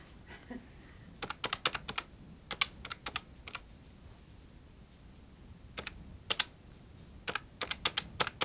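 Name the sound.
typewriter typing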